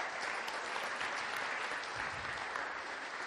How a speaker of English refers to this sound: Okay, let's give a round of applause to these guys. Thank you.